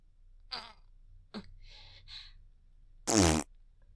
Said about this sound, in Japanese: そしたらまたおならを。